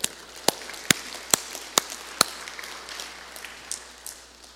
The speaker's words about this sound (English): So all you women, let's clap for all the guys here today.